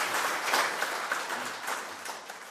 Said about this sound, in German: Ja, das ist ein Applaus wert, sag ich mal. Ganz, ganz lieb.